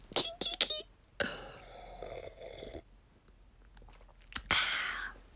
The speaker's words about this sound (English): First, let me get a gulp of this wine.